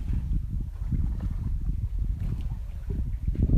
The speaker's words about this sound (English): You simply listen to the water.